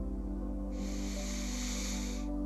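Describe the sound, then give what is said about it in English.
A steady, airy breath drawn in through the nose during a breathing exercise, lasting about a second and a half, fairly soft, over a faint low hum with no talking. “In through your nose,”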